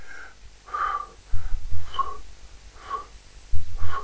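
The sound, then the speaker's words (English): A person demonstrates pursed-lip breathing, as a person with emphysema breathes: short intakes alternate with prolonged, whistling exhalations through puckered lips, steady, repeating about four times in an even rhythm. “A short inspiratory phase, pursed lips, puckered up lips while they're breathing.”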